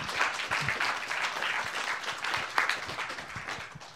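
An audience applauds a speaker after a testimony, steadily, a dense wash of many hands clapping at once with scattered sharper claps standing out, sustained for several seconds without talking.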